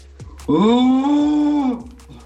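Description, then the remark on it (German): A deer-call master from Hamburg, calling in to Deutschlandfunk Nova, imitates a red deer stag's rutting roar: one loud, drawn-out bellow lasting over a second, rich and droning, with no talking around it. “Ich habe gerade mit Begeisterung eurem Beitrag zum Röhren gefolgt und dachte, ich probiere es jetzt einfach mal.”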